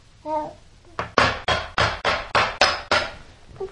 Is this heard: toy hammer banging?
yes